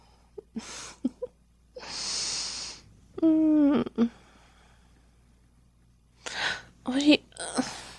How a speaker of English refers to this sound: Baby, you need to wake up. You're snoring again. Yes, you do snore. I love you, but you most definitely snore.